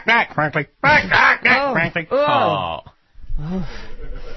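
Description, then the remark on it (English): A goose honks loudly and repeatedly, a rapid run of nasal, strained calls, then a brief pause before a rougher, lower squawk. “I've never seen a goose so mistreated.”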